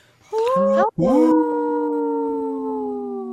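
A wolf howls loudly, starting with a short wavering cry, then breaking into a long, steady, mournful howl that slowly fades. No voices accompany it.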